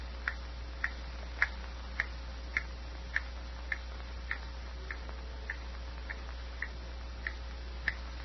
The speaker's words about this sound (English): Dreary silence, broken only by the hammer-like ticks of the old clock